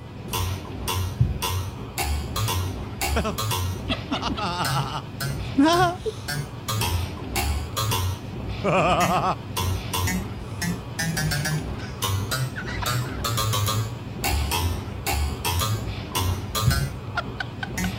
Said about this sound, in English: He got a plastic coffee stirrer, the kind, you know, for stirring coffee. And, you know, if you put it on a table and you thump it